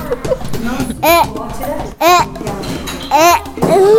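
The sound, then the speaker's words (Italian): Three loud, shrill imitated velociraptor calls made as a dinosaur lure, each a brief warbling screech that rises and falls in pitch, separated by softer rustling and murmuring sounds. “È un richiamo per dinosauri, perché quando lui si mette nel bosco e fa questo è il tipico verso del velociraptor.”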